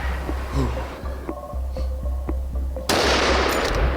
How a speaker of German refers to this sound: Und jetzt kam hier der Überläufer Keiler. Und er hat sich sogar im Schuss überschlagen.